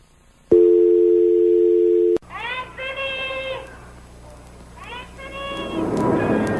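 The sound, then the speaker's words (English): A telephone receiver clicks down and a loud, steady dial tone hums for nearly two seconds before cutting off abruptly, followed by softer tonal sounds and rising noise. “I'll save you the problem. I'll hang up for you.”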